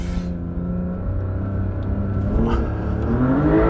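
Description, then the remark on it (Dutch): A car engine revs hard on sand and steadily climbs in pitch, loud, with a continuous rumbling drone and no talking. “En eigenlijk heb je alleen op sneeuw of dit soort zand dat hij zo'n motor zeg maar zo snel zo toeren kan maken.”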